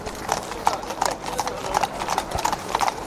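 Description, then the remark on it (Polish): Several police horses of the mounted unit in Smardzewice, part of the Tomaszów Mazowiecki district police, walk at a steady pace during training, their hooves clip-clopping in an overlapping, irregular rhythm of sharp knocks, with faint voices murmuring underneath. “Idziemy, konie ruszają, pierwsze kompania powoli za nim.”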